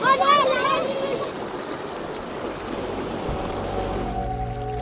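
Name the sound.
river stream water flowing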